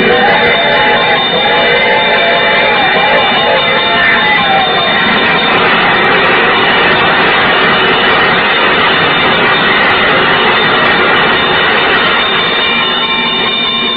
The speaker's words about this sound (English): There's the bell. Yeah? What's that, my dear? There's a train coming.